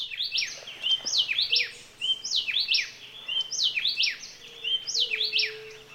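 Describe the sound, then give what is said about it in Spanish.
A happy wren sings clear, loud whistled phrases, repeating the same rapid descending pattern several times in quick bursts, with a faint low hum beneath. “Escuchemos el saltapared feliz con su silbido lindo.”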